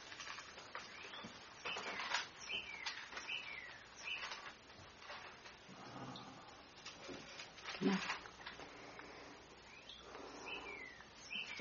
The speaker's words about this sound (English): That bird is just praising God out there.